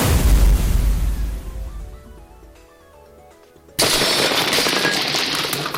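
A video game fire cannon barrage launched from block 10: heavy, rumbling blasts, a brief quieter lull with faint tones, then a sudden loud roaring burst that keeps going to the end. No one speaks.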